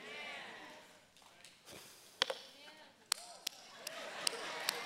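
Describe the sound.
A few scattered, sharp hand claps ring out at uneven intervals, sparse and half-hearted, while a man keeps talking underneath.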